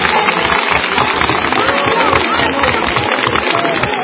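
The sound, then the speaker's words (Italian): Wedding guests burst into loud, sustained applause for the bride and groom at an evening wedding ceremony, a dense unbroken wash of many hands clapping at once, with crowd voices mingling underneath throughout. “Volevo dirvi, fateli un bel applauso, ma non c'è stato bisogno.”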